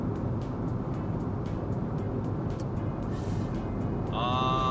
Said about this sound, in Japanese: いやーにしてもさ、車で収録するんだったらもうちょっと静かな車を買いたいね。うん、まあアスファルトの問題もあるんだろうけど、にしてももうちょっと静かな車を買いたいものです。